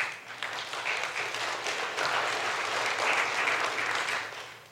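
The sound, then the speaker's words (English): A large crowd applauds steadily, a dense wash of many hands clapping at once that holds strong throughout before tapering slightly at the end, with no talking over it. “That's worthy of applause, isn't it?”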